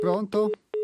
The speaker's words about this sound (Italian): adesso è caduta la linea, quindi invito l'ascoltatore a richiamare perché è appena caduta la linea.